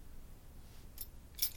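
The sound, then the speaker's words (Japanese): Keys jingle in two brief, bright metallic clinks about half a second apart as they are handed back to their owner, fairly soft, against a quiet background with no one speaking. “はい、鍵どうぞ。”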